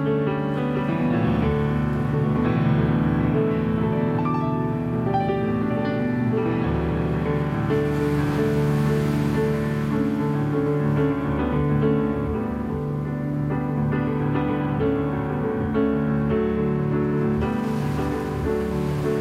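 Gentle piano chords ring out over a steady, washing roar of ocean surf that stays in the background throughout. No one speaks.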